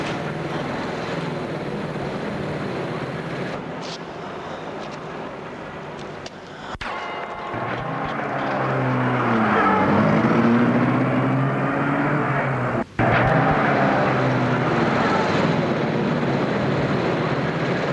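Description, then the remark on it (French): An old black car's engine turns over and settles into a steady running rumble, revving up briefly with a rising tone, punctuated by a couple of sharp clicks; no one speaks. “elle a mis la voiture en route.”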